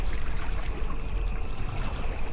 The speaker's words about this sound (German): Tom liebt den Klang der Wellen. Im Sommer hört er ihn jeden Tag, wenn er auf dem Wasser des Bodensees unterwegs ist.